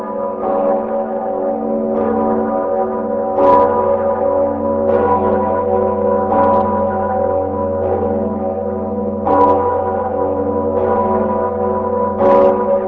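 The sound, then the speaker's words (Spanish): Large bells of St. Vitus Cathedral, cast in the mid-16th century, ring continuously, their deep harmonic tones layering and sustaining, with fresh clangs striking every few seconds over a low, steady hum. Loud and resonant, with no voices. “La campana más antigua de la catedral es la Venceslao, de 1542, que pesa 4,5 toneladas.”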